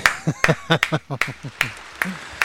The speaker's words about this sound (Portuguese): Palmas pra ele.